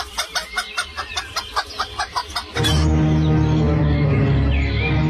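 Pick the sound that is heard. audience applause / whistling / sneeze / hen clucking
hen clucking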